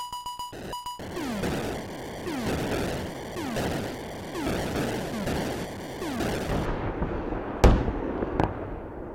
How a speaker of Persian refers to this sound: قبلش گلوله توپ میومد یه اواخر تو خرداد و تیر، صدای گلوله میومد.